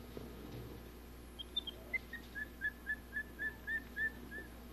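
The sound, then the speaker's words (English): Robert Troll, a pet at the zoo, whistles a quick run of about ten short, bright notes in a steady rhythm, starting with a few faint chirps and growing clearer, with no talking over it. “Yeah, he'd rather whistle than eat, I think.”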